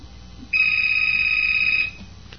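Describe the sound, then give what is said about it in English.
A studio phone rings with one steady, high-pitched electronic tone that lasts just over a second, loud and unbroken over a faint low hum, then cuts off. “Who left the studio phone on?”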